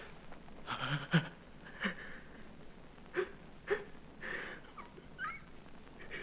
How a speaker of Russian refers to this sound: А в чем ж ты плачешь, милый мой? Ах, видно, в первый раз.